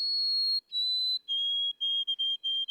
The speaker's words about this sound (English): Some birds have well-known mnemonics, like the, oh, sweet Canada, Canada, Canada, of the white-throated sparrow.